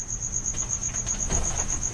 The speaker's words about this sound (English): I have an occasional cricket in my house, and I hope I can get him to offer a solo. Normally, he only sings when he gets jealous of the piano.